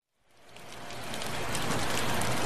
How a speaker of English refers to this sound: Panama is one of the wettest countries in the world. Every year in April, the rains begin, and they generally don't stop until the end of November. Often that means torrential downpours like the one I'm sheltering from at the moment.